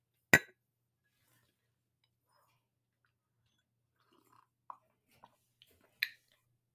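A sharp, bright clink of ceramic tea cups at the start, followed by quiet pauses, a few small taps and knocks, and a second ringing clink near the end, right in front of the microphone.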